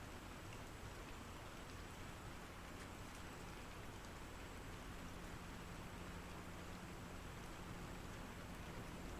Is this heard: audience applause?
no